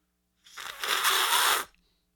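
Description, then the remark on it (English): A single loud, airy slurp of tea lasting about a second, a hissing rush of air drawn through the liquid to aerate it, with no talking over it. “But did you know that you have to aerate it to really get the full impact of the aroma? So I'm going to slurp it.”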